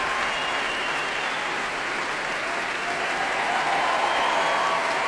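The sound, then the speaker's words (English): Sustained applause from a large audience at the Royal Albert Hall for principal bassoon Philippe Anand after the Orchestre National de France under Daniele Gatti performed The Rite of Spring, a dense, steady wash of clapping that holds at an even, loud level throughout, with no voices standing out. “Applause there for principal bassoon Philippe Anand.”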